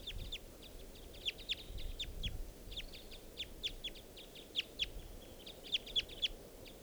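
A male wild bird calls in a rapid, uneven series of short, sharp, high chirps, some louder than others, over a steady low rumble of background noise; a female is also present.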